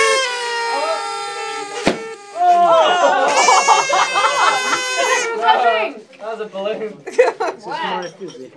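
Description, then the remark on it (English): A balloon gives off shrill, wavering squeals, like air squeaking out through a stretched neck, with a sharp snap early on. Several loud bursts follow, with voices murmuring around them. “That was a balloon.”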